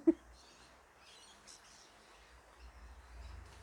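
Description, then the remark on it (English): Birds chirp and twitter in scattered bursts during a fine, gentle rain with no thunder or lightning, fairly faint, over a soft steady hiss and a low background rumble, with no one talking. “And you can hear the birds going insane.”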